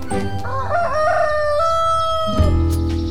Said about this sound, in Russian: Слышите? А вот и наш петушок прилетел. Да-да, тот самый знаменитый гальский петух. Его можно встретить повсюду во Франции.